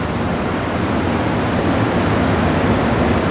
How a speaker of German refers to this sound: Ja, um das mal kurz zu beschreiben, genau, wir stehen vor einem 18 Meter tiefen Schacht, der mündet unten zu einem Bach oder zu einem reißenden Strom, könnte man eher sagen, wo das Wasser durchfließt, man hört es.